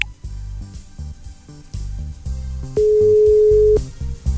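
A single steady telephone ringing tone sounds clearly for about a second as a phone call is placed to a colleague, a flat electronic buzz over a rhythmic low background bed, with no one speaking.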